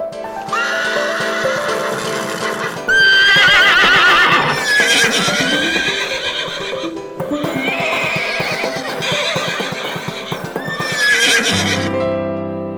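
A small herd of horses neighs loudly, several long, shrill whinnies in succession over a steady background of shuffling hooves, with no voices.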